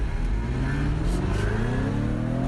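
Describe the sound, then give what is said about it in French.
The 300-horsepower V6 petrol engine of a P300 convertible, driven with the roof down in dynamic sport mode with the exhaust valves open, revs up steadily, its droning pitch climbing smoothly as it accelerates, loud and continuous throughout with wind audible and no voices. “Et sur ce cabriolet P300, P pour pétrole, donc essence, 300 pour 300 chevaux, on coupe le V8 en deux, allez hop, et du coup, ça donne ça.”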